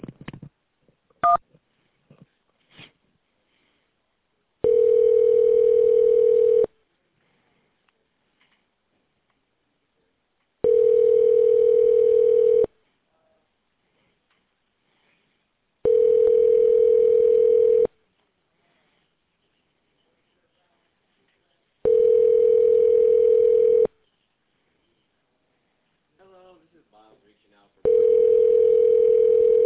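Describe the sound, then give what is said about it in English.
A quick keypad beep and a couple of clicks on a phone call to R. Erlein Jeweler, then the line ringing: five steady, evenly spaced rings, each about two seconds long, clear and fairly loud. “To speak with Ronald, press 1.”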